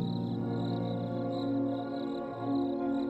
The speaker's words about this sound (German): Und da? Hör doch mal. Das Zirpen der Grillen erfüllt den Raum aus jeder Richtung.